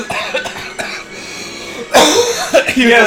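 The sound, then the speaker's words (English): A voice acts out Himmler coughing on people, a harsh, raspy, loud hacking burst with a few rough follow-up spurts after a stretch of quieter vocal noise. “And Himmler was there to cough on them.”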